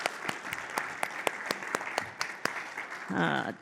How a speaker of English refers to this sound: Can we just give them a clap, those of us who are here this morning?